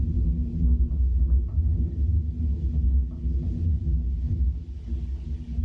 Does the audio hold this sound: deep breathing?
no